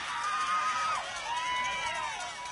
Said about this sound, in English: This Ripley crowd is fired up.